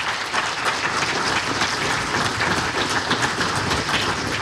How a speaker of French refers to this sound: Et ben, merci beaucoup, les gars, hein, tout simplement. Je crois qu'ils méritent les applaudissements.